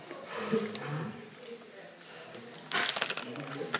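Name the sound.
sneeze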